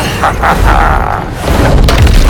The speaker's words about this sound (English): then breaks off the large stick. The boy charges to the house and smashes a window.